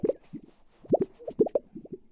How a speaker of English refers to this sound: If it sounds like wiggling a piece of aluminum siding in the air, it's a Gunnison sage grouse.